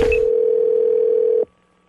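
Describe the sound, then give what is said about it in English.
A phone's outgoing ringback tone during a prank phone call on the radio show Wake Up Call: one steady, even electronic hum that holds for about a second and a half, then cuts off abruptly into near silence. No one speaks. “It's Gavin's phone scam on the Wake Up Call.”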